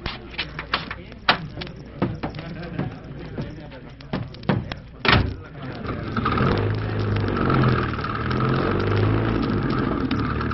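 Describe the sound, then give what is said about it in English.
A series of sharp clunks and knocks ends in a heavy car door slam, then a car engine starts up and keeps running with a steady, low rumble. “I have a car waiting.”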